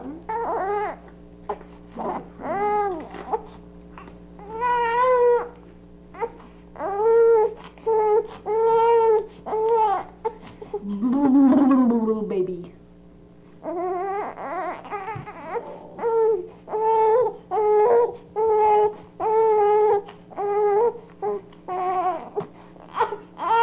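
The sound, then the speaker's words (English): An infant boy cries and howls in a long, continuous series of loud wails, each rising and falling in pitch, with brief gasping pauses between bursts and no talking. “Let him go on crying because it's kind of interesting howling anyway.”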